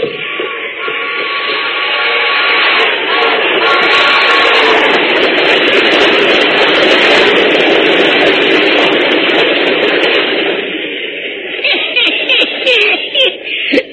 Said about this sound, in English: There's that train again, Pat. The train, and it's getting louder.